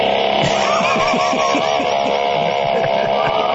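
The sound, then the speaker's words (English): The engine of a small egg-shaped car with a front-opening door runs steadily and loudly, a dense whirring drone layered with warbling higher tones over a pulsing low rumble, continuous throughout with no one talking. “As a matter of fact, I've got a recording of the actual engine sound from that car.”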